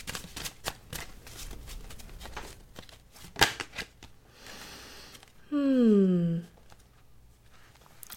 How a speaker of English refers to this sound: So let's call that in, while we call back in this intention of self and well-being and anything else you may have brought in to this session today as I begin to shuffle our cards.